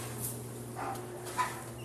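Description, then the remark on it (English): Two short, yelping bird calls ring out inside a cold bird enclosure with a constant snow shower, over a constant low mechanical hum, fairly quiet, with no one talking. “The birds love it. But I listen to them talk. They go, very talkative in here.”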